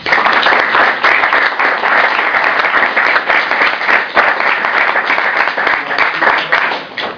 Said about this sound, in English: So y'all clap it up